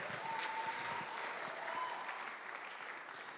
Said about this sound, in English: Yeah, you guys want to clap it up for the instrumental ensemble? And our choir.